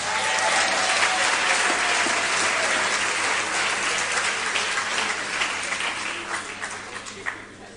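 audience applause

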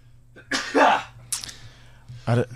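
sneeze

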